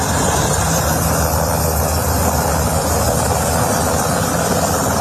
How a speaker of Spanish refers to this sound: Es el momento en el que las Fuerzas Armadas de Estados Unidos sobrevuelan el petrolero Vela 1 cuando se dirigía a Venezuela.